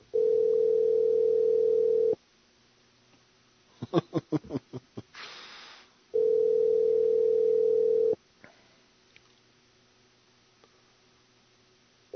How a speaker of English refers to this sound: It's ringing. It's ringing at least. He's got his phone on.